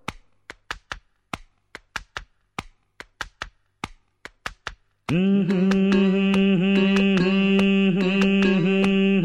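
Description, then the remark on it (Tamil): A hand taps out a quick, steady rhythm on a person's head in a dozen or so sharp slaps for about five seconds, then loud music with a sustained melody and pulsing beat takes over. “டே ரொம்ப தட்டாதடா, தாளம் தட்டுறதுக்கு என் தலையாக கிடச்சிது.”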